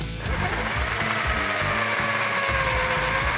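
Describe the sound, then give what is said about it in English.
A power drill whines steadily as it drills through wood, its motor tone sliding slightly as it bites into the wood, with a grinding rumble underneath and no one talking. “Look, first I'll drill through wood.”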